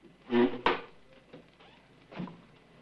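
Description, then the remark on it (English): A door swings shut with a single sharp wooden thunk as Grafton and Max Cady leave, right after a brief shuffle of movement; a softer rustling follows a moment later. “Grafton gets up brusquely and heads for the door.”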